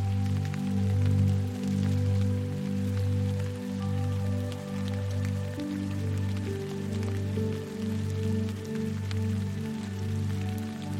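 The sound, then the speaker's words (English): Soft, steady rain pattering beneath a warm, sustained musical drone with slowly shifting low tones; the rain is a fine, continuous hiss of drops rather than a downpour, with no talking. “as the rain begins to fade.”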